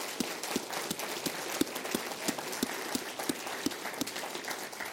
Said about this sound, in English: So if we have any veterans in the crowd here today, if you could please stand up. If we have any. All right, let's give them a hand. Wow, we got a lot.